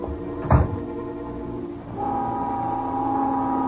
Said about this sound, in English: Just then, the noon whistle blew somewhere in New York